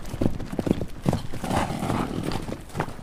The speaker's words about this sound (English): The horse's mane blew in the wind, galloping as fast as possible.